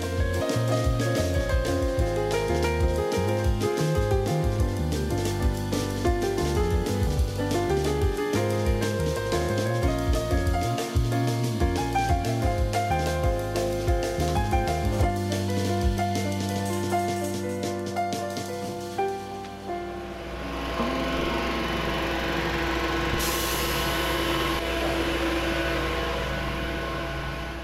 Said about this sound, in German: Ja, Baulärm. Bisschen südlich der Autobahn A2, Höhe Hannover-Garbsen. Das ist ein großer Campingplatz und ein Golfplatz hier. Es gibt auch einen Wasserskisee hier, den Blauen See. Und da sind Bauarbeiten Ende Februar,